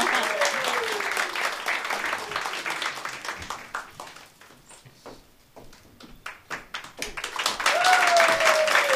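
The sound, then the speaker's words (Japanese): An audience applauds with dense, steady clapping that thins out briefly midway, then swells back to full strength; a few faint sliding tones rise over the crowd at the start and end. “拍手が、あれ、拍手、拍手。”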